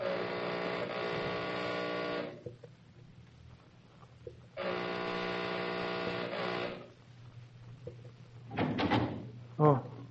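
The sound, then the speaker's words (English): A doorbell gives two long, steady, buzzing rings separated by a quiet pause, then the front door of a foothill home in Hollywood opens with a short rattle and clunk near the end. “We now find Bob Nolan, lifelong friend of Norman and Barbara Howard, at the front door of their beautiful foothill home in Hollywood.”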